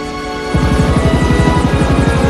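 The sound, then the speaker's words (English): The US president's helicopter engine whines steadily, then at about half a second the rotor thump kicks in, a fast, loud, regular chopping that builds as it takes off. “The president gets into his helicopter and it takes off.”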